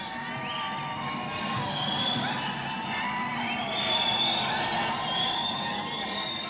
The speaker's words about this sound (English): Under the marble columns, there are now 8,000 gay men and lesbians screaming.